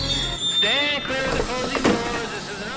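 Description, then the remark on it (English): An A-Train subway car rolls along the rails, its wheels letting out wavering, high-pitched squeals over a steady low rumble for a few seconds. “let go of the subway pole, grabbed her backpack on the seat behind her, and bounced out of the A-Train car”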